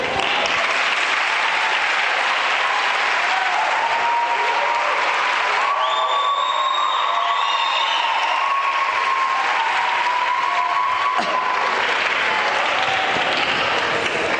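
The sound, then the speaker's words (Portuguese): Sustained applause from deputies and teachers fills a parliament chamber for a storyteller: dense, steady clapping from many hands for about fourteen seconds, with a few faint high, drawn-out tones rising above it midway. “Senhores deputados, senhoras deputadas, excelentíssimos professores, digníssimas professoras, obrigado pela salva de palmas que me deram.”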